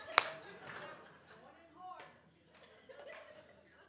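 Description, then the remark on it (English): A slow golf clap: a few slow, scattered hand claps, one sharp crack at the start and then softer claps spaced about a second apart, with faint chuckling and murmuring voices underneath. “That's right, I'll take the slow golf clap.”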